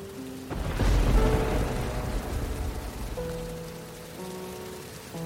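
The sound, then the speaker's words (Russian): Steady rain hisses throughout, swelling into a heavier low rumble in the first seconds before settling back, with soft sustained musical tones humming underneath and no one speaking. “Засыпаешь, дождь, просыпаешься, дождь, выходишь на улицу, дождь.”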